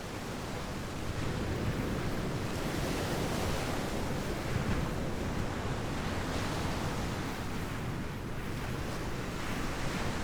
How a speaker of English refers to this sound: When a hurricane brings gale force winds, crushing waves, and high water to the Hatteras coast, everything changes. The waves, whipped by hard wind and rain, pour in one after another, seconds apart, banging against the sand dunes,